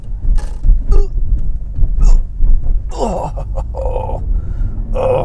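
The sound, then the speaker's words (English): A steady low rumble of a sports car interior, broken by several hard jolting thumps and rattles, plus a few creaks and squeaks as the car bumps over big railroad tracks. “Oh, big railroad tracks here.”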